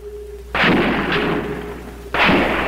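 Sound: gunfire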